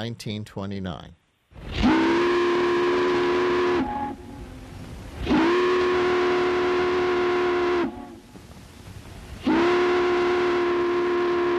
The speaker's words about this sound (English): These are ferry boat horns heard off of the Hudson River, January 24th.